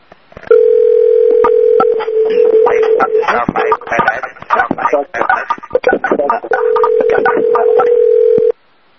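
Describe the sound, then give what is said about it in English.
A telephone rings on the line: a steady tone hums loudly, broken in the middle by a burst of clicks and crackling, then returns and cuts off abruptly near the end. “We also hear the phone ringing.”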